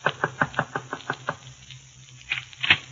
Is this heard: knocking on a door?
yes